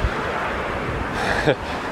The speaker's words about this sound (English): Man, this is fucking windy.